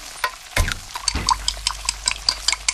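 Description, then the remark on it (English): Kitchen sounds with dishes and utensils clinking in quick, irregular taps, mixed with a splash of running or stirred water and a couple of heavier thuds. “Can you tell if the surfaces in this kitchen are crawling with bacteria that could cause chronic arthritis? Listen.”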